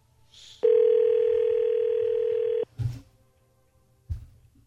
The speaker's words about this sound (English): So we're going to get him on the phone, Parker. Stand by. Tara calling Parker right now.